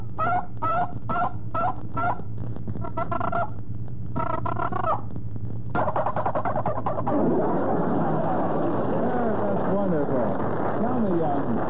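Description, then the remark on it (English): A handheld turkey call imitates a hen calling the gobbler: a run of short, evenly spaced hen yelps, then a rapid, rattling gobble. The calls are fairly loud over a low hum, without any talking. “So here's the hen calling the gobbler, and then the gobbler.”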